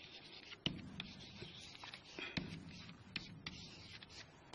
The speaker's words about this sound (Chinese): 还拿这支笔来说事儿吧，那比如说哈啊，我说这支笔我现在在占有它，因为我拿着它嘛，我在占有它，我在写字，我在使用它